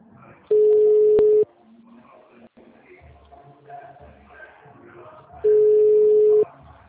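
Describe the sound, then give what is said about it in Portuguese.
A telephone ringing tone sounds twice: two loud, steady, mid-pitched beeps, each about a second long, spaced several seconds apart. Faint muffled voices and shuffling murmur fill the gap. “Gente, mas alguém tá ouvindo um telefone chamar?”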